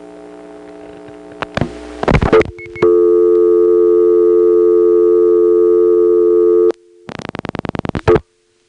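A telephone busy signal from a small Bell step-by-step central office in Smyrna sounds as a loud, flat, buzzy tone that holds a constant pitch for about four seconds, framed by bursts of rapid mechanical clicking before and after.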